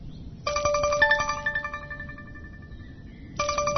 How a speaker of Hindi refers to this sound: अरे फेरि उसैको फोन आयो, अब उठाउनु कि नउठाउनु? कसको फोन हो र? उठाउनु, उठाउ।